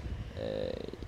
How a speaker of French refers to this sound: Là, vous pouvez entendre ma respiration.